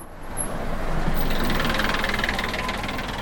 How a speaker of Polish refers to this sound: No właśnie jedzie autobus, widzę.